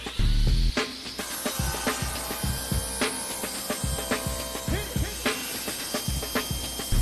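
A loud power saw cuts through wood in a steady, harsh whine, broken by repeated knocks and clatters as the timber is worked. No one speaks.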